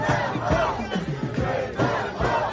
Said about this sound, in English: You see the flags up, folks screaming and yelling on one side and then screaming another on another side.